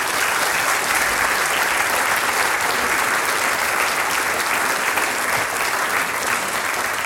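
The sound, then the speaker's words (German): Sustained applause from an audience for mayor Fritz Fledel, a dense, steady wash of many hands clapping at an even loudness for several seconds, with no voices standing out. “Also, jetzt wissen wir viel über die Gall und jetzt kriegst du einen Applaus, Bürgermeister Fritz Fledel.”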